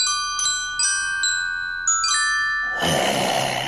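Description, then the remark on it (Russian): Small bells tied to spider-web threads, pulled one after another by a spider, ring out a short, gently paced melody of about six bright strikes, each tone lingering and overlapping the next, before a burst of airy hiss takes over at the end. “Паук дергал паутинки с колокольчиками по очереди, и получалась музыка.”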